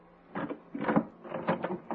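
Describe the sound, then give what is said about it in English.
A door is opened for a visitor who has called to be let in, with a series of rattling latch and handle clunks in quick bursts, then the creaky scrape of the door swinging. No one speaks. “Open up, dear.”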